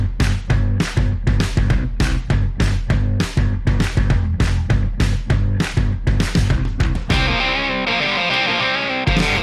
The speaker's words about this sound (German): Okay, dann würde ich sagen, an dieser Stelle wie immer, Musik bitte.